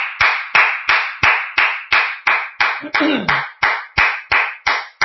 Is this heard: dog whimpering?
no